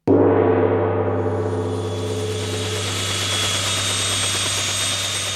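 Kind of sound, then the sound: vehicle, helicopter engine running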